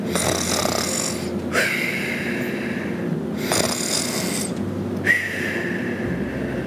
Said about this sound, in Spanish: Con una sonrisa en el enorme rostro, el gigante se quedó dormido y comenzó a roncar con fuerza.